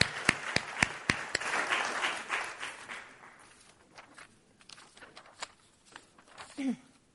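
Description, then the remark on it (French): A crowd breaks into applause, a dense wash of clapping with a few sharp, loud claps, then it thins out to scattered claps before a brief voice at the end. The applause is given in honour of Jesus Christ. “Ouais, on peut applaudir. On peut l'applaudir.”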